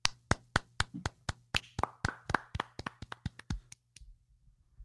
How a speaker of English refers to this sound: Can I clap?